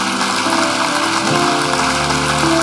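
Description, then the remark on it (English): A crowd at a religious service in Beaumont claps hands for people coming forward to be saved, a dense, steady wash of applause that stays loud throughout, with faint sustained tones humming beneath it. “Come on, give them a good hand clap.”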